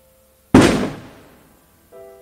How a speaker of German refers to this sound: Achtung, Böller.